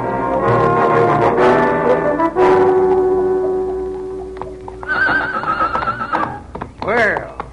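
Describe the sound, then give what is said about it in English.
A horse whinnies loudly and shrilly several times, its neighs wavering up and down, while hooves clip-clop and voices murmur in the background. “Prettiest horse you've ever seen.”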